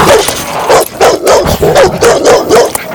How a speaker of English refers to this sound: Dog attacks.